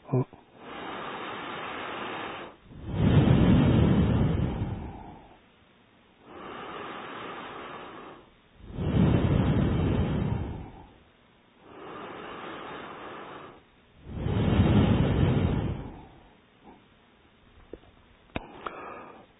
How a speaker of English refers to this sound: So now from both nostrils, long, slow. Begin with inhale.